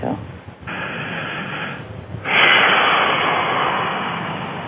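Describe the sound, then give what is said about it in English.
Slow, heavy breathing: a short breath, then two long, forceful, airy exhales, the second louder and drawn out, with no clear talking. “I'm breathing like that because I can sense a power of relief for you, and it's really great to feel that.”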